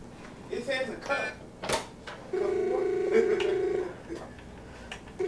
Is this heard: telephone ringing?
yes